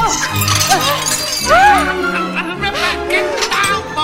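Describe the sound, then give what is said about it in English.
Necklace beads scatter in a flurry of small, bright clicks and clinks, tumbling over one another for several seconds while excited voices with rising and falling cries carry on underneath. “The beads of her necklace scatter.”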